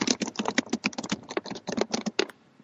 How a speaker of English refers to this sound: What are you typing over there? Huh? Nothing. What am I typing over here? No, I just hear clickety clack.